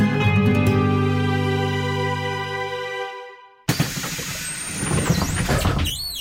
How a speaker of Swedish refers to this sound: Välkommen längst bak i bussen. Ja, där sitter vi. Välkommen till allra längst bak.